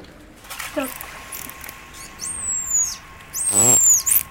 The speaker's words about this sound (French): elle a donné son nom en dauphin, qui est ce fameux sifflement signature